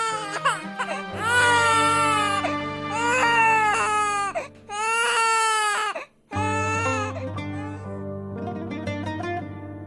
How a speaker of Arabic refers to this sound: كان كل خوفها على موتة جنينها، فجمعت كل ما تبقى بجسمها النحيل اللي يرجف من قوة حتى تولد طفلها وتخلص من الموت المحتوم. وفعلا ما سلمت الروح ولا استسلمت للموت إلى أن سمعت صرخ الطفل.